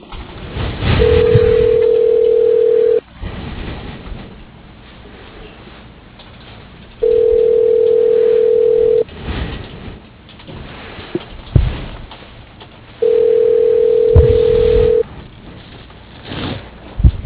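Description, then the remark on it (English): A telephone line rings while a call is transferred: three long, steady mid-pitched tones, each about two seconds, separated by roughly four-second gaps of faint line hiss, with no talking. “please hold while your call is being transferred”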